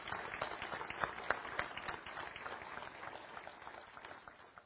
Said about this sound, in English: Thank you so much for leading us in worship today. If we can, just another round of applause. Just thank you so much for that.